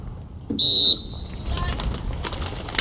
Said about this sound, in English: The clicking in of racing shoes to bike pedals, locking the two together, has in its sound the hope and anxiety most racers feel at the starting line.